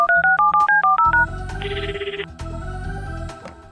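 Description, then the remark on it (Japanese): A quick run of about eight electronic telephone keypad tones beeps in steady rhythm as someone dials a phone number again, each a short paired-pitch blip, then gives way to a softer, continuous line tone with faint background hum. “またちゃんと納得できる説明をするまで何度でも電話してやるんだから。”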